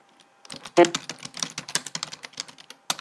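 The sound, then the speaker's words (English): Rapid keystrokes on a computer keyboard while typing into a spreadsheet table, a quick irregular run of crisp clicks with one louder tap early on, no talking over it. “B2, let me type in.”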